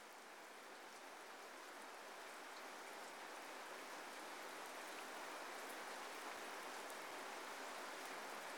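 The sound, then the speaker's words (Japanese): Steady autumn rain falls continuously, a dense even hiss of drops spread across the sound, with faint brighter patters on top and no voices, holding at a constant level throughout. “秋の日は短くて、けれど雨はとても長い。秋雨が降り注いで、空気が湿ることを秋湿りと言います。”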